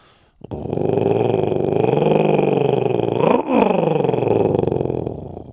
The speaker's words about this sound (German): Als Merlin sich gerade verabschieden will und sich zum Weggehen umdreht, ertönt plötzlich ein gruseliges Knurren.